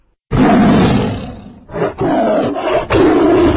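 A tiger roars loudly in a series of deep, rumbling bursts, each roar rising and trailing off before the next begins, with no voices present.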